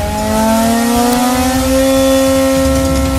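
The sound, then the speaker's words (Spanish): A new Mercedes Formula 1 race car engine for the 2021 season revs loudly, its high-pitched whine climbing steadily over about three seconds with no talking. “Mercedes y Lewis Hamilton presentaron el nuevo auto de Fórmula 1”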